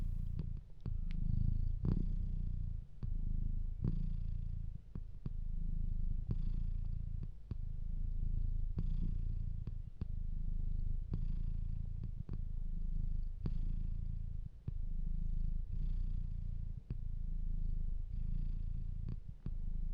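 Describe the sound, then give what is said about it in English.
George the Cat, in Finland, purrs steadily, a continuous low rumble pulsing in a gentle rhythm for the whole stretch, with no voices or other sounds. “George the Cat in Finland.”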